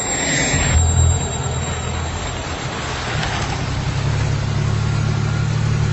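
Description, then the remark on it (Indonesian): A car engine hums steadily, with a low rumble that shifts slightly as the car pulls over beside a large tree and settles into an idle. No one speaks. “Dan terasa seketika mobil itu pun menepi di dekat sebuah pohon besar.”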